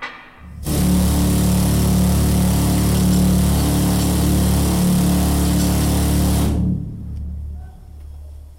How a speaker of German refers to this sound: Der Mineur ist immer am Bohren. Eigentlich ist er am Meißeln, oder? Aber jeder Mineur hat bohrt.